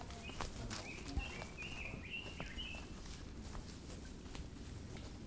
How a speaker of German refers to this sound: Die Sonne scheint, der Kirchplatz ist still, Vögel zwitschern.